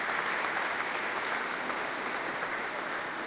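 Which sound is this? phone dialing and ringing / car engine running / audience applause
audience applause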